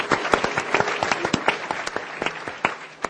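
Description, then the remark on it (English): A crowd applauds the work of groups in the city of Newark, many overlapping hand claps forming a dense, crackling patter with sharper individual claps popping out, sustained at a moderate level throughout with no talking. “just please give them a big round of applause for what they're doing in the city of Newark.”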